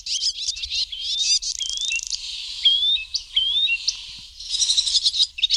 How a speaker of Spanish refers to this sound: Estos son pájaros. Golondrinas.